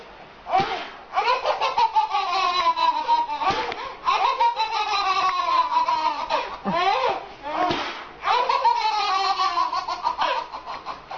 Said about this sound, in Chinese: 婴儿是这样笑的